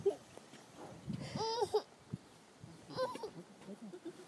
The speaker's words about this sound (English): Dad, did you see that? That was so neat. Yeah. The cow was like right in my face.